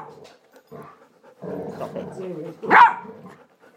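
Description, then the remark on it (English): A dog plays with its toy, growling and grumbling in a low, drawn-out rumble, then lets out one sharp, loud bark before going quiet again. “What with him and his toy, the silly dog.”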